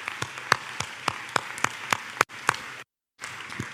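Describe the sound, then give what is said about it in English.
Audience applause given as another round of applause: a dense wash of clapping with sharper, evenly spaced claps standing out in a steady rhythm. It drops out abruptly for a moment near the end, then resumes. “We want to give you another round of applause, and I want to pray for you guys.”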